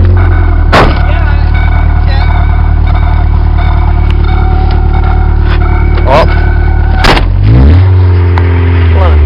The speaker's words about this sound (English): Well, the battery terminal's messed up in the car, so... I'll tell you when they turn it over.